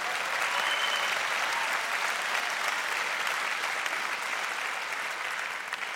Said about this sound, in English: Yeah, sure, applaud.